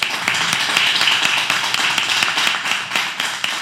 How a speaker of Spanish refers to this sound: Y este era el aplauso que recibía precisamente como consecuencia de su nombramiento ante las personas que estaban allí, los propios periodistas y personas que acompañaban